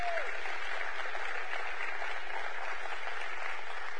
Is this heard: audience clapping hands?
yes